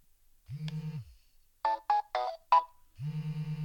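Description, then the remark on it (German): A low buzzing vibration pulses, then a short four-note electronic chime sounds, and the pulsing vibration resumes afterward, fairly loud with no talking. A WWalk obstacle-warning device is being switched on. The continuing vibration is its obstacle warning, detecting the person holding it. “Okay, da war jetzt eine Vibration und ein Tusch und jetzt vibriert er immer noch.”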